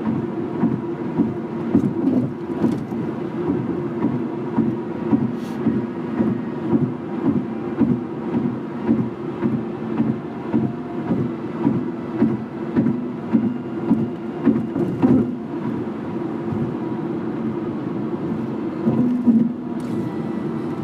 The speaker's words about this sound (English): Trunk of a car, would you recognize the sound of this bridge to figure out where they're taking you? What does it sound like? Ba-bum, ba-bum, ba-bum, like a ba-bum, ba-bum. Like seams in the concrete.